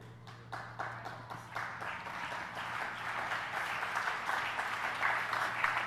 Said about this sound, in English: You're just going to keep clapping until everybody does.